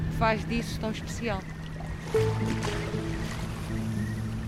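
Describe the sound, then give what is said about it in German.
A small motorboat's engine drones steadily on the Ria Formosa marshland wetlands in Portugal's Algarve, its low hum holding constant and growing fuller partway through, while a person talks briefly at the start. “sitzt in einem kleinen Motorboot und zeigt auf die Marschlandschaft der Ria Formosa an der portugiesischen Algarve.”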